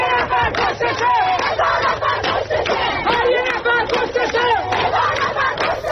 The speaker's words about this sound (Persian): اینجاست که آدم یاد شعاری می‌افته که بچه‌های دانشجو همین دیروز تو دماوند می‌دادن.